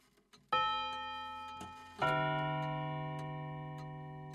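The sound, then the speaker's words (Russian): The pendulum of an old grandfather clock ticks twice, about a second and a half apart. Each tick is loud and sharp with a long, ringing metallic decay, and a few faint clicks come before the first. No voices. “Тик-так. Секунда. Еще один шаг навстречу к смерти.”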